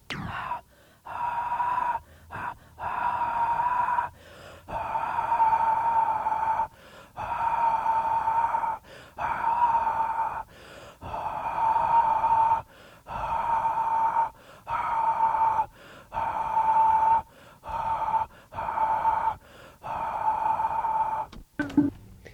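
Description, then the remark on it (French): Airy breath blown into an instrument over a dozen or so times, each hissing puff swelling until a clear mid-pitched tone sounds through at its peak, separated by short silences. “Maintenant, le son du paragraphe D, le souffle qui fait apparaître un son clair à son sommet.”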